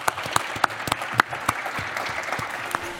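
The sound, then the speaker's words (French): Applause from a crowd for a guest, the northern director general of Nexity Résidentielle: a dense wash of claps with a few sharper, louder hand claps popping out at irregular moments, sustained steadily throughout with no one speaking. “Applaudissements pour vous.”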